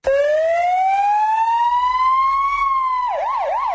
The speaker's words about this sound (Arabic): إنه الصوت الذي لا يكاد يختفي من شوارع بغداد، أحيانا حتى في ساعات حظر التجوال الليلي، فسيارات الإسعاف أصبحت طوق النجاة في بحر أعمال العنف الهائج.